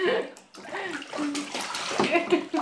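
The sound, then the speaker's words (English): Bathwater splashes and sloshes in a tub in uneven bursts, with a child's high-pitched voice and an adult speaking over the watery noise. “Hey, no stopping in the bath.”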